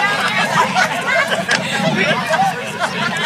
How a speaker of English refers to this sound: I know we got the crowd fired up. A lot of heckling, a lot of cackling going on.